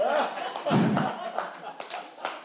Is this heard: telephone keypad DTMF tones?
no